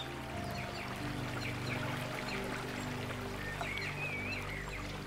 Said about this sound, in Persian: صدای آب و بوی طبیعت قلب شما را سرمست و شاد می کند.